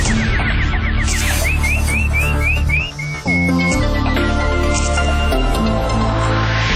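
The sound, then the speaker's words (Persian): A quick run of bright, rising bird-like chirps, like a nightingale's warble, repeats about eight times over loud, busy music that carries on after the chirping stops. “اینک مشروع خبرها با چهچهی همکارم بلبل”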